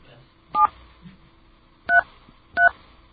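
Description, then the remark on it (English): Three short touch-tone telephone keypad beeps, each a crisp dual-pitched tone, spaced about a second apart with no talking over them, as a phone number is dialed to call Sprint Nextel Corporate Security. “People can't read these tones, can they?”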